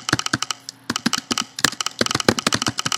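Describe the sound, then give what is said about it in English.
Rapid, uneven keystrokes clatter on a computer keyboard as a username is typed in to sign into an application, fairly loud, with a brief pause before another quick burst of typing. No one speaks. “So I'm going to type in my username.”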